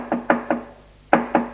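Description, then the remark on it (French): Someone knocks on the front door of a house early in the morning: three firm raps, a short pause, then two more, fairly loud, with nothing else in the background. “L'on frappe à la porte.”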